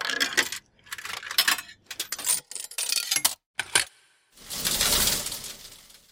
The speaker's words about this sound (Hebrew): בחלונית התצוגה של תחנת אפולה אפשר לראות חפץ מיוחד שהחזיק הכרטיסן. החפץ הזה נקרא פורט מטבעות. בעזרתו ספר הכרטיסן את המטבעות שקיבל.